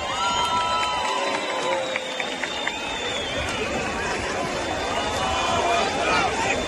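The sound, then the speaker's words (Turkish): A large crowd roars and cheers continuously, a dense wash of many voices with whistles and shouts rising above a steady, loud background of applause-like noise. “Ekşileri huzurlarınıza davet ediyorum. Alkışlarınızla.”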